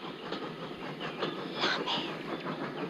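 steam train departing

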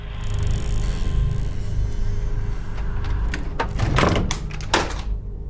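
door closing

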